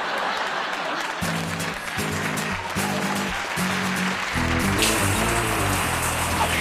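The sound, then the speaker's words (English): A shower runs with a steady, loud hiss of spraying water, while low tonal notes come in short phrases over it, growing busier toward the end. “So then, Tim spent 20 minutes in the shower and another 10 minutes powdering, spraying, and clipping.”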